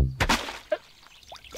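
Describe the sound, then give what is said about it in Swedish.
A quick burst of blue water splashing down onto someone as a christening, followed by a few scattered, plinking drips trailing off in the quiet, with no talking. “Och med detta ljuvligt blåa vatten döper jag dig till exempel till”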